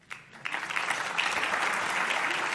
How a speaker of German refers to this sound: Einen großen Applaus.